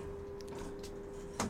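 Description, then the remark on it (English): A steady mechanical hum runs throughout, then near the end a short, louder sliding clunk as the doors of a glass lift shut at the fourth floor library of a building under construction. “Doors closing. Please mind the doors.”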